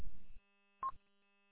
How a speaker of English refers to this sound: I guess that little courtesy tone is the courtesy tone for the echo link.